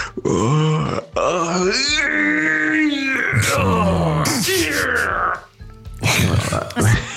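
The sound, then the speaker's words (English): A voice imitates a woman's long, exaggerated, aggressive yawn that builds into a strained, groaning stretch, loud, with drawn-out rising and falling vocal tones and a few gruff grunts near the end. “So she tends to yawn and then do a bit of a stretch, but it comes out pretty aggressive.”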